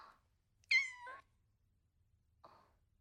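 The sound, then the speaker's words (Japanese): A stray cat lets out a single clear, fairly loud meow with a rising-then-falling tone, bracketed by a couple of short, softer chirpy mews before and after, amid otherwise quiet surroundings. “この猫知ってる？”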